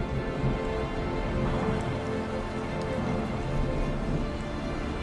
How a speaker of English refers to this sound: Listen to what the rain has to say. Large raindrops splash the pavement.